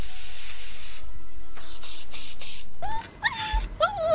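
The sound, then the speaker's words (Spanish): An aerosol air freshener hisses in one long, loud spray, then three short bursts, sprayed into the eyes of Doberman dogs, followed by a dog's high, wavering whimpers and yelps. “Les he echado los ojos un poquito del ambientador que me regaló mi suegra, que lo compró en los callejones.”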